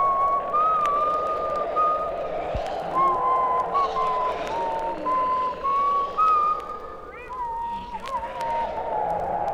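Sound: person whistling a tune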